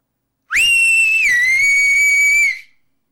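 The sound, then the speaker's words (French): A single long, loud whistle holds a steady high pitch for about two seconds, dipping slightly partway through before fading out, with no talking around it. “émit un nouveau sifflement, plus long et plus fort que le premier.”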